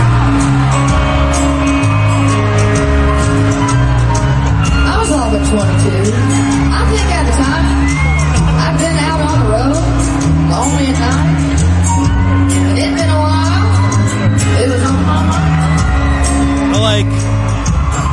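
A crowd at the Sand in My Boots country music festival cheers, whoops and yells over loud live music with a heavy, steady bass line as a singer comes out on stage, the roar staying constant throughout.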